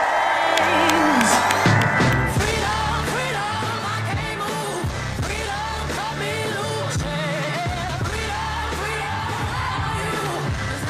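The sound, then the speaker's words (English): A large crowd at a political rally for Vice President Kamala Harris, just north of Eau Claire at the site of a former country music festival grounds, cheers and whoops loudly in a sustained, dense roar for about eleven seconds, with scattered clapping and a steady beat of music playing underneath. “Vice President Kamala Harris speaking to a rather large crowd in just north of Eau Claire at the site of a former country music festival grounds.”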